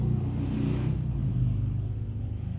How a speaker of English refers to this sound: And that's something that we constantly hear every Sabbath in Ramona. Very noisy motorbikes.